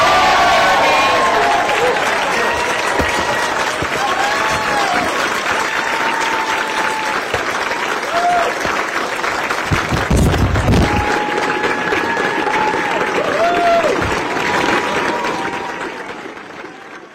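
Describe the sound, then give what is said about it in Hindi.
A large crowd at a Labor caucus event applauds and cheers loudly and steadily for Australia's Prime Minister and Labor leader Anthony Albanese, with dense clapping mixed with whoops and shouts and a brief swell near the middle before it slowly fades at the end. “Okay, for this hugely expanded Labor caucus, let's give it up for Australia's Prime Minister.”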